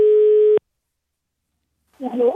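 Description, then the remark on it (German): A single steady, mid-pitched ringing tone of an outgoing phone call to Niamey, Niger, sounds for about half a second and cuts off abruptly; after a pause of silence, a voice begins speaking. “Deshalb habe ich sie mal angerufen.”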